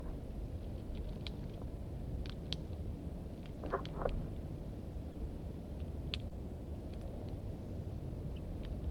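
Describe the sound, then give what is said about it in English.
Scattered short, high chirps and twittering notes of wild birds, a male and a female, with a brief cluster of quick chittering calls partway through, all fairly faint over a steady low rumble of background noise. “The male chittering more.”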